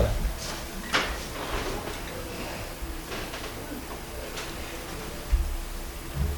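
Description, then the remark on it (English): Chairs being carried in and shifted around a room, with scattered wooden knocks, scrapes and clatters at irregular intervals, moderately loud, over faint background murmuring. “We have in fact, I would suggest that you bring in chairs because what I'm going to have you do will involve using chairs.”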